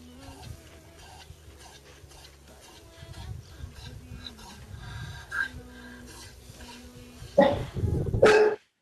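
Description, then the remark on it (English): A dog lets out a couple of loud, sharp barks near the end, standing out from a quiet background of low rumbling and faint shuffling. “Knock it off, dog.”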